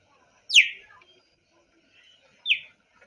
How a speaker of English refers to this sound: So we actually have found what sound a cheetah makes. Here it is. I'm going to open up the trusty YouTube video. It does sound like a bird.